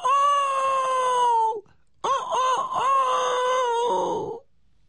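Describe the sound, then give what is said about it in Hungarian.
A rooster crows twice, loud: a long, steady, strained call, a short pause, then a longer second crow with a wavering middle before it trails off. “Ez nem lárma, ez nem sziréna, ez kukorékolás!”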